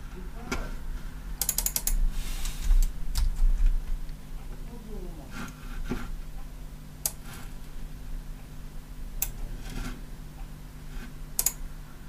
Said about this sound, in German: Aber hey, lass uns doch da rein Blättern. Hier habe ich es doch heute Morgen auf dem Weg zur Arbeit aufgeschrieben.